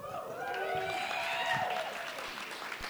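An audience applauds steadily, a dense, even wash of clapping that holds for the whole few seconds, with a few cheering voices rising and falling above it.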